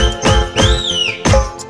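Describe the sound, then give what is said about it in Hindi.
A policeman's whistle: a high, bending whistle tone rises and falls once over a loud, busy music track with heavy beats, bright and lasting about half a second. “अरे पांडू हवलदार तू सीटी मार मार, अरे पांडू हवलदार अरे तू सीटी मार मार रे।”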